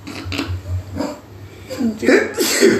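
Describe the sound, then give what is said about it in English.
A sharp sneeze bursts out near the end after a stretch of low, muffled sounds, followed by a brief noisy exhale. “Excuse me. Bless you.”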